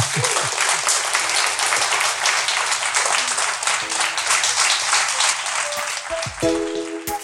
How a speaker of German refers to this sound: Bitte großen Applaus für unseren Gast.